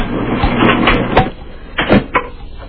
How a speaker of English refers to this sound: Put a sneaker and shoe in the dryer. Run it, yeah. Let us hear it tumble. There's other clothes in there, but can you hear it? I heard the thump.